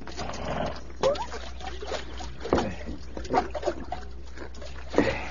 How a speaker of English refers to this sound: Yeah, horses are thirsty. We'll water them after we fill their canteens.